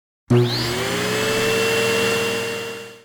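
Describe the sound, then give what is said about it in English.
A robot vacuum cleaner switches on abruptly and runs with a steady motor whine and whirring hum, loud, with a rising tone at the start, then a slight fade near the end. “Some people have a robot that vacuums their house.”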